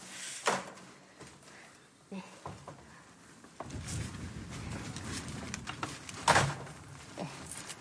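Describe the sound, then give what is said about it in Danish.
The front door of a person's own first-floor apartment is opened and walked through, with sharp latch clicks and a couple of thumps, followed by shuffling footsteps and movement while a person speaks briefly. “Og så går vi ind af min dør.”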